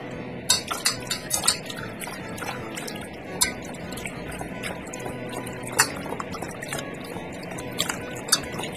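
Water runs steadily under scattered clinks and knocks of things moving in a bowl or sink, the sound of blanched pork ribs being rinsed clean under cold tap water. No one speaks.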